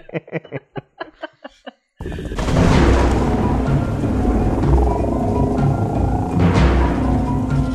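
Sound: thunderstorm rumble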